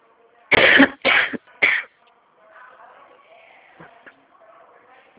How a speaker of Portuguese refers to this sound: Mulher, você tá numa tosse.